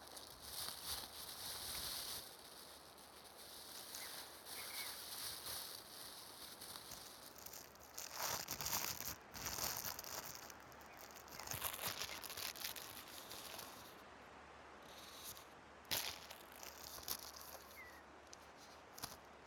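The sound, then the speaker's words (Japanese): A potato chip bag is torn open and crinkled at a cherry-blossom viewing picnic, with bursts of crackly plastic rustling coming and going over about twenty seconds. No one speaks. “途中で買ってきたポテチとコーラがあるから食べよ。”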